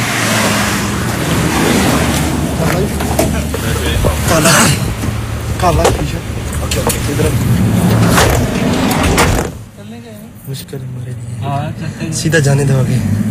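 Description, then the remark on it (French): Constant low road and engine rumble from inside a moving car, with people talking over it throughout; the noise briefly drops away near the end, then returns. “mais il y a quand même deux travailleurs qui sont là, qui nous font signe, qui veulent nous parler, et on grimpe dans la voiture.”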